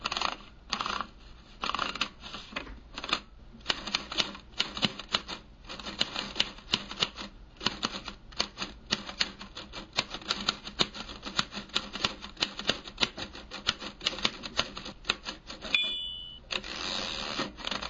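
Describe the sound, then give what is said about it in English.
Rapid clacking of keys on an old manual typewriter, steady with brief pauses, and a small bell ding near the end before the typing resumes. “Mac pulled over an old typewriter from underneath a pile of papers.”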